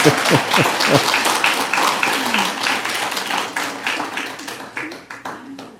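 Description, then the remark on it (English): An audience breaks into sustained applause for the speaker's wife and children as they stand, a dense crackle of many hands clapping at once, with a few voices calling out underneath before the clapping gradually thins out. “Yes, well, you can applaud them if you want to.”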